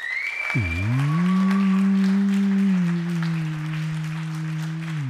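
Steady crowd applause runs throughout, partly covered by a loud, low droning tone that dips sharply in pitch at first and then holds level. A brief high whistle sounds near the start.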